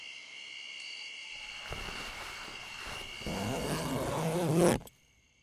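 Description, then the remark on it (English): A small tent's zipper rasps shut in one long pull that grows louder and faster near the end before stopping abruptly, over a steady high chirring of insects in the background. “Hey, don't fucking unzip the whole thing. Jesus, fine, you can come in. Just close the damn zipper already.”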